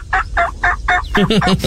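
A turkey gobbles loudly: four evenly spaced throaty calls, then a quicker rattling run of gobbles, with no talking.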